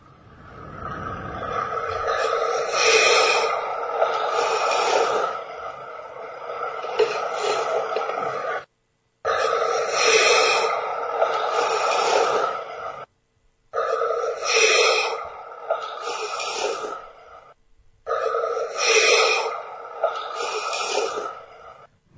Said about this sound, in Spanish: vamos a oír algo que es una respiración perfecta, pero parece que está respirando alguien a nuestro lado. Vamos a escucharla primero.